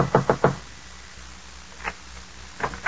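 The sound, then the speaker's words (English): A man knocks at night on an apartment door on the top floor of an apartment house: three quick, firm knocks on a wooden door, followed after a pause by a single knock and then two more, with quiet in between. “Finally, he comes to an apartment house, climbs to the top floor, and knocks on the door.”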